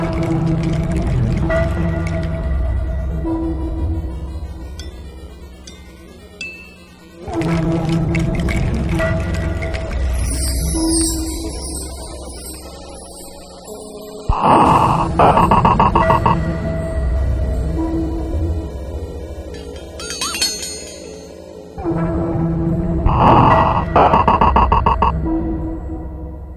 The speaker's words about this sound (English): One tarantula that makes a fantastic sound, certainly more melodic compared to a lot of the other species. There's a more trickling brook sound to it, if you like.